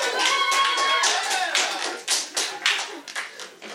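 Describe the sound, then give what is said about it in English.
A small group claps together for a woman who has just eaten her prunes, in quick, uneven bursts, steady at first and then thinning into scattered claps near the end, moderately loud. “Everyone clap for”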